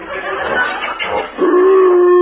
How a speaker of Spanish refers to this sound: Perro salvaje.